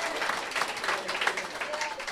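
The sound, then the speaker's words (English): Dense applause from a large audience, many hands clapping at once in a steady, crackling wash of sound that stays fairly even and loud throughout. “I love the sound of that many claps.”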